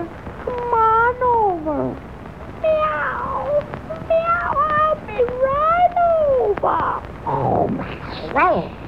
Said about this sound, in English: Meow, meow